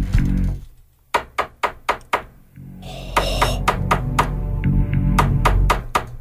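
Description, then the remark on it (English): Three bursts of sharp, rapid knocking on a door, each about four or five firm raps in quick succession, separated by short pauses, over a steady low background hum. “And then she's like, "No, seriously, somebody's at the door."”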